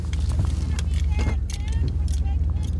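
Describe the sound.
Steady low engine rumble fills a truck cabin while driving, a constant droning hum with faint rattles, and muffled voices murmur briefly over the road noise.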